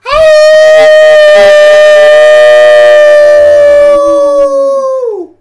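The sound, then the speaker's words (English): Several people howl together in imitation of a coyote pack: loud, sustained, overlapping wails that hold steady for a few seconds and then slide downward and fade out. “And and as you can hear, the whole coyote pack is here.”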